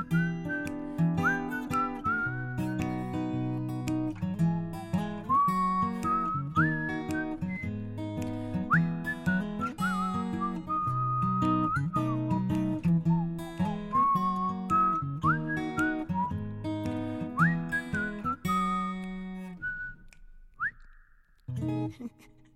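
A bright whistled melody in a French pop song glides and hops through a light tune over a steady accompaniment with guitar and finger snapping, loud, with no singing voice, ending on a few held whistled notes.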